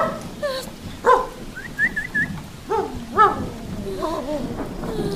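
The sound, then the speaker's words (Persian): A dog barks at a person several times in short, uneven bursts, loud, with a steady rain-like hiss in the background and no speech. “میشه به این سگ آدم خوره توضیح بدی که به من پارس نکنه؟”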